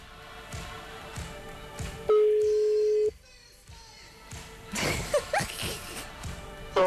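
A phone line during a live radio broadcast: one long, steady electronic ringing tone sounds clearly, followed by a few short, high keypad beeps over faint background noise.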